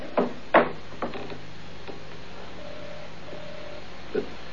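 A stuck door on an island is forced with a few heavy wooden thumps and rattles, two loud jolts early, then weaker knocks, over a steady low hum and faint tones.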